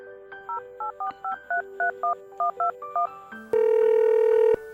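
An office worker dials a phone call at night: a rapid series of about a dozen telephone keypad tones beeps in steady rhythm, clear, followed by a louder sustained ringback-like tone near the end. No one speaks.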